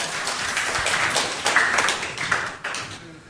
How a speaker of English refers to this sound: I'm really encouraged that you all applauded at that.